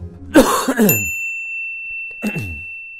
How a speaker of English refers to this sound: If you see something, don't say something. Just cough on the asshole.